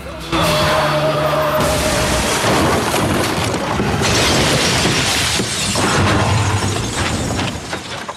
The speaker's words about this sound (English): The car veers towards a pile of junk and overturns, spinning over and over until it lands on its roof.